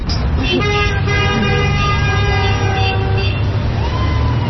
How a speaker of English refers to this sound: As you can tell by the horns honking, a lot of people agree with us.